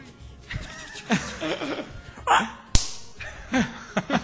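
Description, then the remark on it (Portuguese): A voice imitates a punch with a single sharp smacking hit midway, surrounded by breathy vocal whooshes and snickering laughter. “Faz aí a sonoplastia do soco.”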